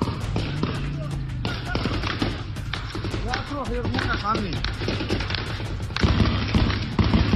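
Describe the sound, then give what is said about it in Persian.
Loud, rapid bursts of heavy machine gun fire rattle almost continuously, with booming shots and shouting voices mixed in, the firing growing heavier toward the end; high-caliber machine guns fired at protesters sheltering in the reed marsh of Mahshahr. “شاهدان عینی میگن در شلیک به نیزار ماه شهر که معترضان به اون پناه برده بودند، از تیربار هم استفاده شده.”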